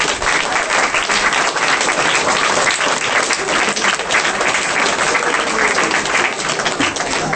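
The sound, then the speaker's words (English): A crowd applauds steadily, a dense, loud wash of many hands clapping that holds at an even level throughout without fading, with no voices standing out. “And if you could give them a round of applause.”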